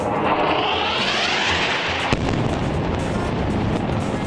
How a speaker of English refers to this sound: A massive explosion over Gaza City this morning.